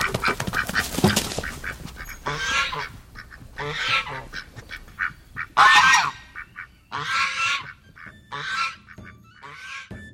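Geese honk repeatedly in loud, harsh bursts, several calls overlapping in an irregular rhythm, with short pauses between the noisy, nasal cries and no voices.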